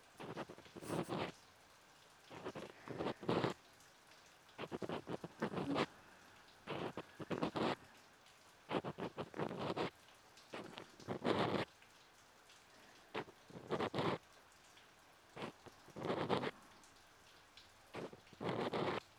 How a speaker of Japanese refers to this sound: 雨の音、ちょうどいい BGM ですね。雨音って落ち着きませんか？無数に降り注ぐ優しい水。